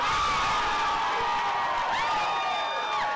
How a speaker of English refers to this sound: This was the crowd at the friendly spot as the Spurs won game one of the finals, 110-95.